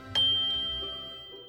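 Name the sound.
bell chime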